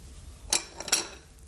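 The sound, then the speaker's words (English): A knife cuts a fruit into four pieces on a plate, giving two or three sharp, bright clicks and scrapes of metal on crockery in quick succession over a quiet background, with no talking. “I'll cut it into four pieces.”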